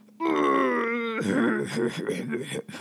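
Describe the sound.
A voice imitates a person grunting: one drawn-out, wavering, low groan-like vocalization lasting about a second, followed by people talking.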